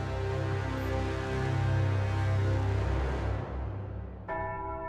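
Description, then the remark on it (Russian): A loud metal ship's alarm bell rings throughout the ship with sharp, rapid strikes, a rich, sustained hum and overlapping tones, fading slowly before a fresh sharp strike lands near the end. No one speaks. “По всему кораблю звучали резкие, частые удары колокола.”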